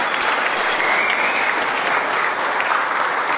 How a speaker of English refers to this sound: Okay, 40 years of love. Wow, I think you should all give yourselves a round of applause for that. Well done, everyone.